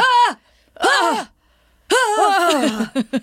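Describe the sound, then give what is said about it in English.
A voice imitates a man's sexual moaning: three drawn-out, wavering vocal moans with rising and falling pitch, separated by short pauses, ending in a few quick clipped grunts. Loud and without other talk. “To say, he has a very specific response to pleasure. Yeah. And it is very vocal. It's like this.”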